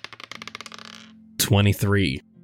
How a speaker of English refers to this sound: I'm going to have you do the lady in red and the man with the top hat first and do a separate roll for the man you just saw. Just sleight of hand. I'm using the red dice for the lady in red.